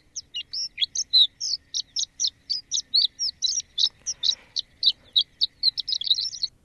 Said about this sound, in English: By the way, that's Bill Martin's playing some audio from the Bird Songs Bible, the complete illustrated reference for North American birds, and we'll play some more if people call in with the birds that they're seeing this winter.